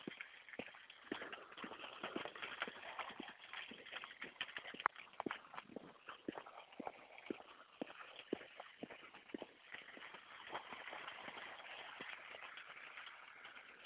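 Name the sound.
raindrops pattering on leaves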